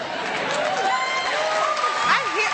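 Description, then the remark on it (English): A group of people clapping steadily for a couple of seconds, the applause mixed with cheers and overlapping voices from the crowd. “We're clapping that, because that's the most American nonsense I've ever heard.”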